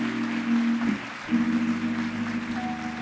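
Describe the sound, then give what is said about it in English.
A crowd claps steadily for a few seconds in a round of applause for servicemen and women, a dense crackling wash of applause, with a low sustained tone humming underneath throughout. “Won't you please give a round of applause for our servicemen and women, please.”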